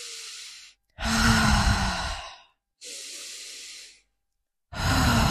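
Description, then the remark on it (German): A person breathes loudly and deliberately to demonstrate conscious breathing sounds, alternating long airy exhales and inhales in four distinct breaths separated by brief silences, with no talking. “Weißt du, kannst du so atmen, einfach so und diese Geräusche zu machen.”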